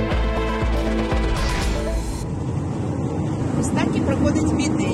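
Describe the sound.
A truck's engine drones steadily from inside the cab, a loud, continuous low rumble with a shift in tone partway through, while a voice speaks over it. A woman from Kyiv drives her truck, carrying manufactured goods to shops in the capital.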